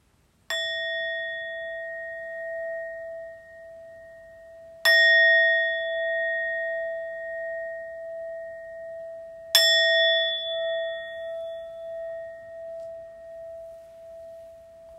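meditation bells ringing

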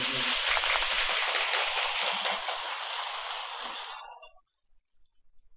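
audience applause

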